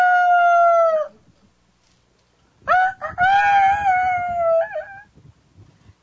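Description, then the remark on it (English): A person's voice mimics a rooster crowing: one sustained high call, a brief pause, then a longer wavering crow that rises and trails off, loud. “But he wakes up in the morning, when the light comes out in the rooster.”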